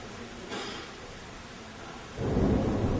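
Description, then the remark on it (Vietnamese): Heavy rain hisses steadily while a deep rumble of thunder swells in near the end, loud and low, rolling over the downpour with no voices. “Hiện nay trời đang mưa rất to, sấm sét rất lớn, nước có thể ngập lụt ở một số khu đất mà có cái mật độ cao là thấp hơn mặt biển.”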